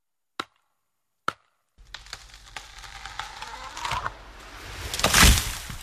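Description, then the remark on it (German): Two sharp, isolated axe blows strike wood as lumberjacks fell a tree, then a rough stretch of creaking and crackling wood noise builds steadily to a loud splintering crash near the end. “Mit Sägen und Äxten müssen Holzfäller an die Arbeit gehen, wenn sie Bäume umschlagen.”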